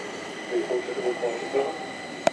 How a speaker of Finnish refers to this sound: Kuullaan, minkälainen äänimaisema on paikallisessa metrossa, joka nyt onkin täällä tunnelbaana.